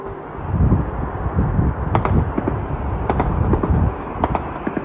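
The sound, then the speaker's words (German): An attack by Ukrainian kamikaze drones on a Russian oil refinery, setting it on fire, filmed by an eyewitness in October: a steady low roar with rumbling booms and a scattered run of sharp, cracking bangs, some in quick pairs, with no voices. “Was wir hier hören, das ist ein Angriff von ukrainischen Kamikaze-Drohnen, die in Richtung einer russischen Ölraffinerie fliegen und diese dann in Brand stecken.”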